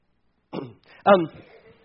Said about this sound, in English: His name is Ahimelech, which is fun to say. Ahimelech. Especially, see, I have to clear my throat every time. That's kind of funny. Ahimelech.